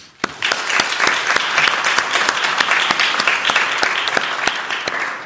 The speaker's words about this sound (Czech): Tak rodiče tu pochopitelně nemáme, ale věřím, že můžeme zatleskat, když je nás tady míň a více asi lidí, kteří se radují teďko online.